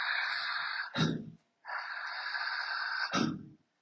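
Two long, forceful breaths pushed out in a steady hiss as a breathing demonstration, each ending in a sharp, gusty burst of air, with a short pause between them. Loud, with no talking.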